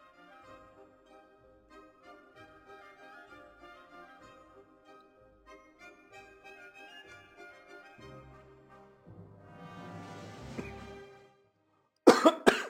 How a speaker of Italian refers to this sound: Scusate il colpo di tosse, non ho il coronavirus ma semplicemente ho un sorso di caffè che mi ha dato di traverso